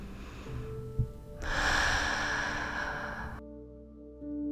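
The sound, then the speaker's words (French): A single slow, airy breath out through the mouth during a guided meditation breathing exercise, a soft rushing whoosh lasting about two seconds, set over steady, sustained background music tones. “Puis comme l'air repart de votre ventre, passe par votre gorge et sort par votre bouche.”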